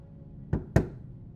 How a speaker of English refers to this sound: And Ellie knocks on the desk so everyone can hear this. All of you hear the hollow knocking.